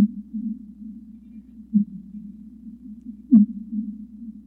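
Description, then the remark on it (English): Fin whale calls sped up tenfold: a steady low droning hum with two short pulses, the second a sharp downward-sweeping chirp, with no talking. “These are fin whale calls that have been sped up 10 times so they're audible to the human ear.”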